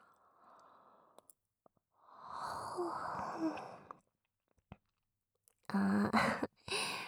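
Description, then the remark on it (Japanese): Two people yawn together, long breathy drawn-out exhales: a soft one, a fuller one in the middle, then a louder, voiced yawn at the end, with small clicks in between and no talking. “同時にあくびした。”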